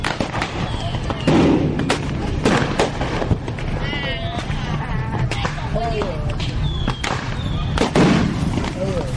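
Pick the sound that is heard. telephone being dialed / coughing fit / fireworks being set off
fireworks being set off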